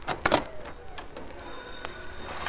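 A telephone rings faintly in an apartment, a thin steady tone that starts partway through, after a few brief clattering knocks at the beginning.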